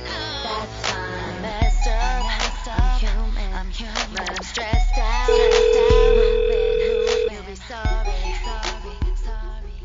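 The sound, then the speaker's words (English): A single sustained electronic telephone tone of an incoming call sounds for about two seconds, cutting clearly through music that keeps playing underneath with a steady beat and layered vocals. “We got a call, but I don't know what I'm going to do with this phone.”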